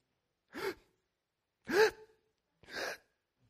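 Audible breathing: a sharp, voiced intake of breath, a silent pause, then more heavy breaths let out in short sighing bursts, with no talking.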